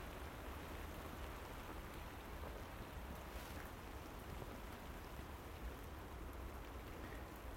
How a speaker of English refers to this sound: Oh, super duper. Can't get enough of this wind and rain, you know. Miss it so much. Actually, it really is raining quite heavy.